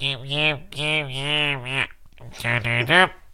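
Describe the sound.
A voice imitates a stuffy-nosed, congested way of talking, answering with sounds only, no words, how they sound with a cold: drawn-out nasal, humming vocal sounds in two bursts separated by a brief pause.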